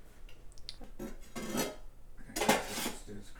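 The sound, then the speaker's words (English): Black cumin seeds sizzle and crackle in hot oil in a pan while cooking dal, with a steady hiss that swells twice as a utensil scrapes and stirs. Nobody speaks. “And so we're going to let that fry a bit. Yeah, just let this sizzle a bit.”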